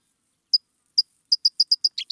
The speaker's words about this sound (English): One of those public birds? The California towhee.